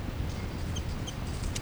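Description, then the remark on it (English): A bird's chitter call, identified as a 3-3 chitter and recorded up close to the birds: two quick, thin high-pitched chirps about a third of a second apart, fairly faint over a steady low rumble, with no one talking. “up close to the birds here. That's 3-3 chitter.”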